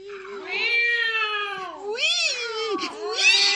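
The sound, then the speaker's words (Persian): A cat yowls loudly and continuously, its drawn-out wavering cry bending up and down in pitch across several rising and falling swells. “مادر جان، مادر رسیدیم، گربه اونجاست، مثل این که بردی.”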